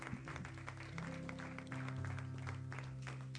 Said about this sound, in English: Praise the Lord. Let's give the Lord a hand clap of praise this morning.